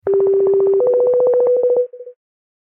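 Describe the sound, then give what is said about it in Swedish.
A phone call ringing tone plays alone as a call is placed to a former Love Island contestant: a steady electronic tone with a fast pulsing texture that steps up slightly in pitch, then breaks into a few quick beeps before stopping. “Lisa ska vi ringa. Det blir kul. Vi ringer henne.”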